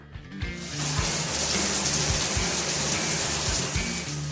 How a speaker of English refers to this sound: As I listened from the room next door, I heard my shower turn on.